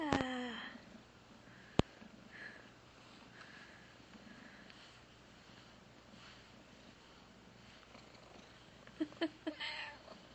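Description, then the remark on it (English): A cat gives a short meow at the start, then purrs steadily and quietly, with a few faint chirping sounds near the end. “Meow.”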